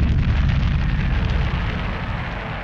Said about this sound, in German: Urplötzlich zerfetzte eine gigantische Explosion den Himmel über Florida. Die Challenger wurde buchstäblich in Fetzen gerissen. Ein apokalyptischer Feuerball schoss in die Atmosphäre.